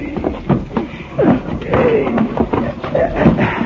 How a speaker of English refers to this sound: Give me a hand here, will you? We'll move Chester's couch away from the wall, then.